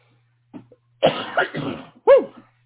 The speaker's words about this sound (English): I had to cough that whole time and I fought it off.